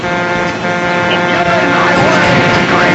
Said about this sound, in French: Alors écoutez les bruitages, ils sont vraiment géniaux, les bruits de frein et tout ça, c'est super réussi. Et j'ai le klaxon, écoutez bien.